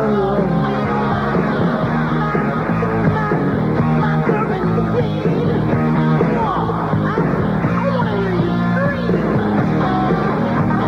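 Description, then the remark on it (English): A loud rock song with gritty electric guitar plays without a break, dense and steady throughout, with a raw, strained vocal riding over the band. “Pretty decent guitar work in this, when you think about it.”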